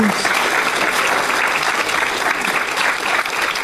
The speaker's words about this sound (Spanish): Un aplauso para todos nosotros.